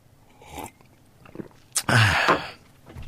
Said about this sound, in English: Excuse me while I have a sip of tea.